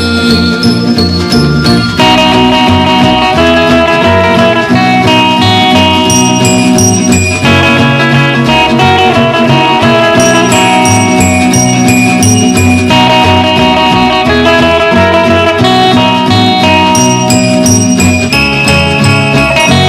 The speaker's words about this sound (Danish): og det var dejlig musik at lytte til her.